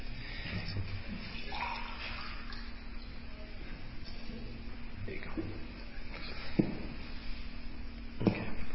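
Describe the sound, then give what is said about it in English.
Water is poured into a glass in a steady, soft trickle lasting several seconds, with a couple of faint clinks near the end. “Do you want some water?”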